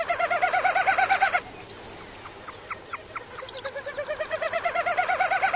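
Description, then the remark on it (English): Common snipe display winnowing: a rapid, tremulous series of hollow pulsing hoots, fairly loud, heard in two bursts separated by a quieter stretch with a few short chirps. “When next you are out someplace soggy to admire the spectacular plumage of spring ducks, remember to listen for the aerial display of the common snipe.”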